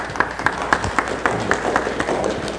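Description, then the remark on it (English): An audience at an Irish American Club gathering applauds steadily, a dense wash of many clapping hands with a few sharper claps standing out in a quick, even rhythm. No one speaks over it. “I think these fellows deserve a big round of applause for what they've done.”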